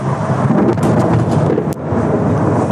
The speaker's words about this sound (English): Last night, a square mile in central Baghdad seemed like hell on earth. An inferno. ITV News cameras recorded the barrage from hotel balconies, and it was a truly chilling sight. This is going to be a big bang.